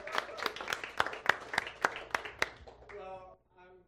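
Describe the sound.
Brief applause at a church service for a speaker, sharp, fairly regular claps, about nine in quick succession, that fades out as a voice begins speaking toward the end.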